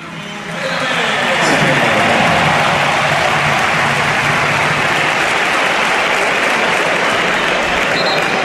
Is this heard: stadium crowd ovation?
yes